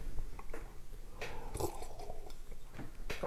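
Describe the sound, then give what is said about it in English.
A wet slurp as someone on a radio show sips coffee, slurping more than usual for effect, with a short airy burst in the middle, softer mouth noises around it, and no talking. “I slurped a bit more than usual for radio effect.”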